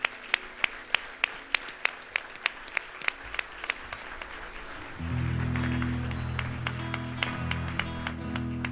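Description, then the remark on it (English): A standing audience applauds God's work at a church service, beginning with steady, evenly spaced claps that swell into dense, continuous applause as a low sustained musical tone comes in partway through. “Can we stand and applaud God's work of him saying, drawing us to himself?”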